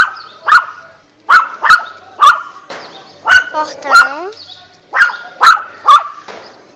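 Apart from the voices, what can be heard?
small dog barking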